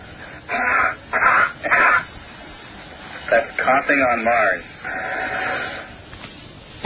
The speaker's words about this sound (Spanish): del tosido es tal y como lo escucharíamos en Marte con este micrófono. O sea, la primera entrada es la tos en la Tierra. La tos en la Tierra. Y la segunda ya sería la tos o si se produjera en Marte en las mismas condiciones. That's coughing on Mars.